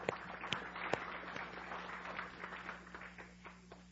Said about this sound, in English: How about an applause for that?